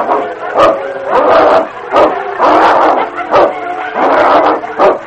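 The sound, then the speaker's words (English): A great dog and a pack of huge wolves fight in the snow amid wind, snarling and growling ferociously. It is a loud, continuous run of overlapping rough bursts with sharp yelps and snaps breaking through, with no talking. “The sound of the wind was split by snarls and growls of fury.”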